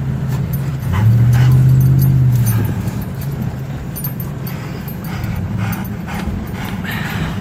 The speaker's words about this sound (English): His cell phone video is through the passenger side window. His brother-in-law is at the wheel. His dog is panting in the back seat. Flames surround them.